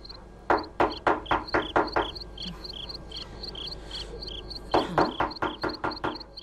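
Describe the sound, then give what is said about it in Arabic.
Two bursts of firm, rapid knocking on the door of a house, about six raps each separated by a short pause, with crickets chirping steadily in the night background and no voices. “سأطرق الباب.”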